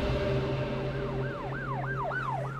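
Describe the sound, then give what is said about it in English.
A police car siren swells in as the car turns a corner and settles into a fast, repeating wail of quick rising-and-falling sweeps over a steady low engine rumble, fairly loud, with no one talking. “A cop car turns the corner in front of me.”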